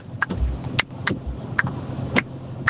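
A car pulls away over a low engine rumble, punctuated by five short, sharp tire-screeching bursts spaced unevenly, moderately loud, with no one talking.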